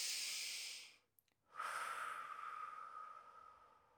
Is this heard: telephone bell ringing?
no